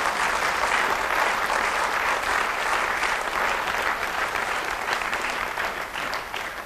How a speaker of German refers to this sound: Schwerarbeit, Schwerarbeit. Applaus hier für die.